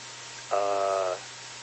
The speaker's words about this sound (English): Carriers, very strange carriers actually, down in the lower part of 80 meters where the CW is supposed to be.